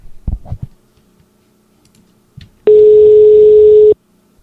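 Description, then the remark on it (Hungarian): A single loud, steady ringing tone of an outgoing telephone call sounds for just over a second after a few soft, low thumps. The call goes unanswered, with no voices. “vedd föl kérlek a telefont. Lehet, hogy próbálkozom még egyszer?”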